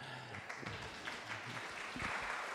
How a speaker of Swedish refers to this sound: Så hon förtjänar ju en guldmedalj, verkligen. Eller hur? Hon förtjänar en applåd.